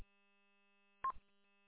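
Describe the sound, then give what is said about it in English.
A single short electronic telephone keypad tone as a phone call is placed, a clipped beep that stands out against a faint, steady electrical hum. No one speaks. “I'm going to make a phone call here.”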